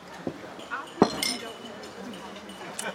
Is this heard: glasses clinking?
yes